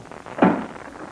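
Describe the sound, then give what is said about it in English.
A heavy door leading into a gas chamber is opened, a single solid thunk and scrape swelling up midway, then a low rumbling resonance trailing off. Moderately loud, with no voices. “This is the door. It leads into the gas chamber. All right, open it up.”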